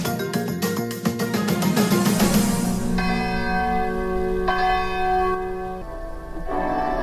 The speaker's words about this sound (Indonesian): Lonceng di St. John's Komunitas Benedictus menandai hari baru di biara dan perguruan tinggi yang terletak di danau dan hutan seluas 3.000 hektar di Central Minnesota.